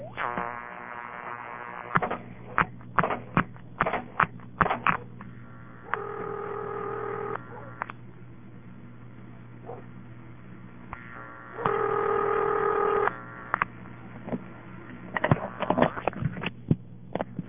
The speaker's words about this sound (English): The ringing generator in this town has a rather weird kind of sound to it. You hear all kind of clicks of its equipment before the ring and then right after the ring.